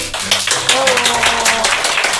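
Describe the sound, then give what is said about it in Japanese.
An audience at a live event venue applauds steadily, a dense wash of many hands clapping at once that holds for a couple of seconds, with a voice faintly audible underneath. “なんか拍手があるの新鮮ですね。”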